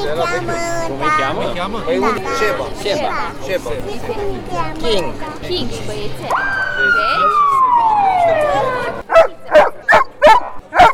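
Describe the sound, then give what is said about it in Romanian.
A trained police dog barks sharply about five times in quick succession, loud, right after a descending siren wail; voices and crowd chatter fill the earlier part. “Capii de afiș au fost desigur patrupezii dresați să intervină pe teren alături de oamenii în uniformă.”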